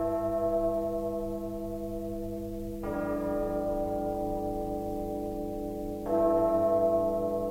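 Church bells ring out in slow, heavy strokes, three clear strikes a few seconds apart, each rich metallic tone humming on and blending into the next. No voices are heard.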